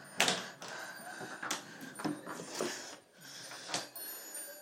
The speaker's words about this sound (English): So we open the door, come out.